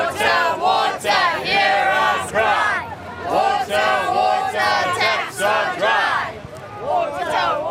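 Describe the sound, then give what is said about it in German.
A crowd of protesters on the streets of a city chants loudly in unison about a water shortage, with taps running dry, voices rising and falling in repeated rhythmic phrases that carry on steadily without a break. “Überall in der Stadt haben die Menschen die Nase gestrichen voll, fühlen sich von den Behörden im Stich gelassen und gehen zu Protesten auf die Straße.”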